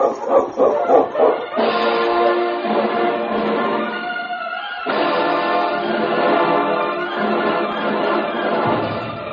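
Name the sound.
husky sled dogs barking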